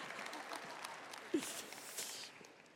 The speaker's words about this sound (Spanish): Y todas aplaudieron, son mujeres.